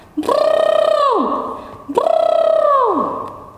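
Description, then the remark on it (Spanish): Two loud, buzzy trumpet-like blasts made with the lips in imitation of an elephant, each holding a steady high tone for about a second before sliding sharply downward. There is no talking. “Ahora vamos a imitar con nuestros labios el sonido que hace un elefante.”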